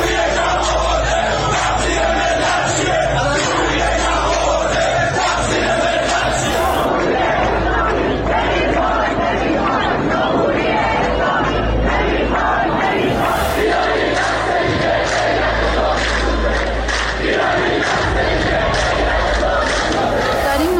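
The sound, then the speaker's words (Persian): A loud, dense crowd of protesters at the end of a residential alley, during the November protests over gasoline prices, shouts and chants in the street, many voices merging into a continuous roar that barely lets up for about twenty seconds. “واسه تظاهر کننده هایی که سر کوچمونن، چون قرار تاسو بمونن سر کوچه، ببریم بهشون بودیم بخورن که گوشت نمونن.”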